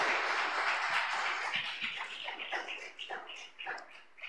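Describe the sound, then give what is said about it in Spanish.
Steady applause from an audience for someone's birthday, a dense wash of many hands clapping that holds strong before thinning into scattered individual claps toward the end. “¿Le podemos dar un fuerte aplauso?”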